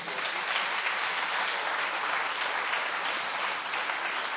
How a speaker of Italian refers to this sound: Facciamo forte applauso al Signore.